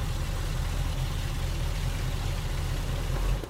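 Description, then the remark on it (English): A steady, low engine rumble of a few cars idling at a rest stop drones on without a break, moderately loud, with a faint hiss of traffic noise over it and no voices. “Oh, a rest stop. You need to now? There's a few cars here.”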